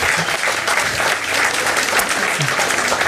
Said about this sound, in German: Am Richardplatz, ja, Sie können ruhig klatschen, in Neukölln.